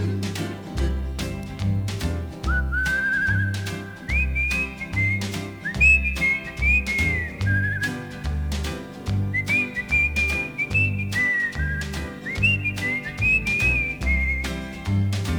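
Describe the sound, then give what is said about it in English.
A melodic whistled tune rises and falls in clear sustained notes over a steady, bouncy instrumental backing with a regular beat, the whistling loud throughout. “Now anywhere that the tune takes me, oh, so happy it makes me when I'm whistling words.”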